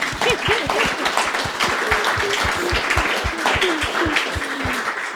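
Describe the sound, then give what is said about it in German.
Steady applause from an audience fills the whole stretch, dense overlapping claps at a constant level, with faint voices murmuring underneath. “Ich würde ganz gerne, ja, ganz gerne klatschen.”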